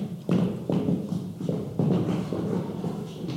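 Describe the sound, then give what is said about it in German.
Three people climb creaking wooden stairs up to the attic in a steady, unhurried rhythm, each step landing as a hollow, resonant thud, about seven or eight in a row with no talking. “Und so stiegen die drei fröhlich die knarzenden Treppen zum Speicher nach oben.”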